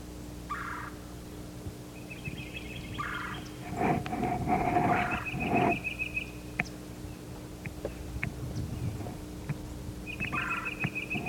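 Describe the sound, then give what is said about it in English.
A yellow-throated warbler sings clear, whistled phrases of repeated notes, with a louder burst in the middle, over a steady low hum and scattered chips from other birds. “the yellow-throated warbler singing?”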